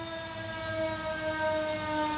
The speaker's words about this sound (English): We got a big-time fire truck coming by.